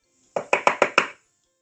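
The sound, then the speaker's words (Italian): Five quick, evenly spaced knocks on a door, crisp, rapping in a steady rhythm with nothing else around them. “La vecchietta si alzò e si diresse pian piano verso la porta, mentre sentiva bussare sempre più forte.”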